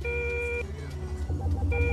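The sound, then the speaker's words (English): A proximity alarm sounds a long electronic tone, falls silent, then starts again near the end, all over a steady low engine-like rumble. No one speaks. “Proximity alarm.”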